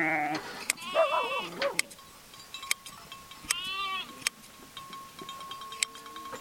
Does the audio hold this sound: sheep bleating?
yes